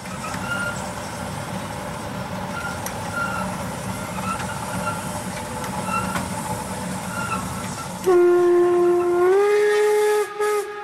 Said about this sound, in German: Nur sehr selten fährt hier noch eine alte Dampflok über das Gelände. In Schrittgeschwindigkeit zieht sie die grünen Waggons der Deutschen Reichsbahn und den roten Metropa-Speisewagen so, als könne sie noch durchfahren, über den Landwehrkanal